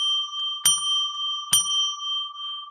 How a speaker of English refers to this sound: I'll ring a bell three times to declare sacred space.